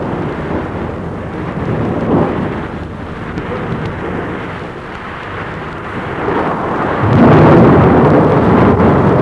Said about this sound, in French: Une jeune femme blonde est éveillée et a peur de l'orage. Elle voit de sa fenêtre les éclairs. Un énorme coup de tonnerre.